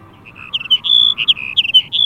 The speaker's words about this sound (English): A chill wind ruffles a male sage sparrow's feathers as he sings atop a tall sagebrush. It's late February, a few miles from the Columbia River in central Washington.